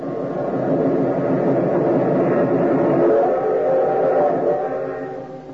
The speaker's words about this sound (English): We've got to beat the train or run smack into it. You'll never make it. It's almost to the crossing. So are we.